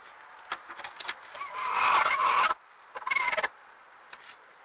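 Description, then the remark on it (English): A hen, in the middle of laying and disturbed when the egg door was opened, gives a harsh, drawn-out squawk followed by a shorter raspy burst and a few soft clucks, moderately loud, with no talking. “She was in the middle of laying, and she was not happy that I had opened the door, and so she made this sound.”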